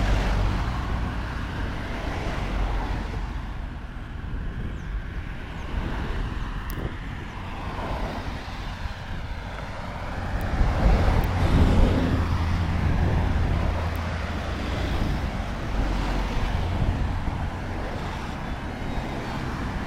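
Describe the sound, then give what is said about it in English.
Steady low rumble of road traffic going by, with a slightly louder vehicle swelling past midway before the hum settles back to a constant background drone. “Stop with the traffic for a minute, shall we?”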